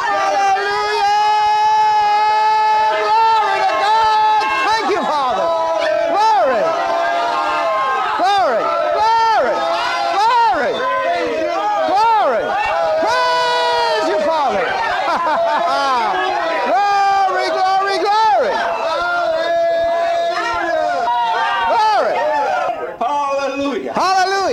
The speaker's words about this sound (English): Shouting for joy. Yeah. Yeah. Yeah. Remember that the next time you're alone or you're in church and you're supposed to be rejoicing, yes. Remember what you just did. Yeah. That's shouting for joy.